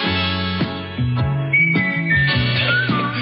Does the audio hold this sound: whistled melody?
yes